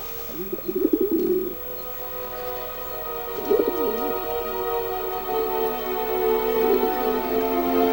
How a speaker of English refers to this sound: The white shapes are doves, cooing as they pick at their feathers. Dozens of the birds are reflected in the glass of a skylight above their perch.